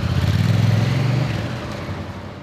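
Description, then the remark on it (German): In Izmir, Turkey, a motorcycle engine putters at a low, steady idle-like rhythm as the rider leisurely rides off, then gradually fades as it rolls away, leaving faint street noise behind. No voices are heard. “Atilgan Orel schlüpft wieder in seinen dicken Motorradanzug. Dann tuckert er gemütlich davon.”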